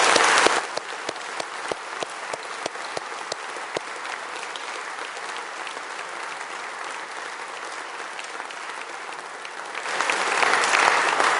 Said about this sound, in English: And you may not realise this, but all the people who provide this food are volunteers who get up at, I don't know, 2 a.m. or something to fry the bacon. So maybe you can join me and just give them a round of applause.